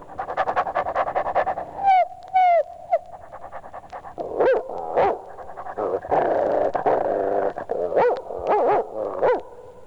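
A German shepherd dog growls and barks in a loud, agitated run of sharp barks, rough snarling and panting breaths, with no one speaking.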